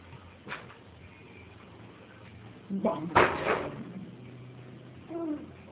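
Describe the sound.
A door is pushed shut with a single solid thump and a brief rattle. A faint voice is heard at the start and again just after.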